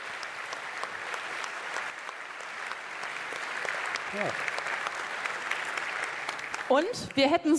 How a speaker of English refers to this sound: Thank you so much for this great and very relevant, great talk, very relevant for practice too. So let's have some more applause.